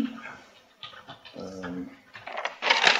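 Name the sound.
dog panting and whimpering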